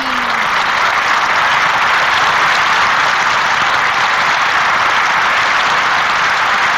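Sustained applause from a large crowd at the Plaza Nacional del Folclore in Argentina, for a singer, a dense, steady wash of clapping that holds at an even, loud level for the whole stretch with no voices standing out.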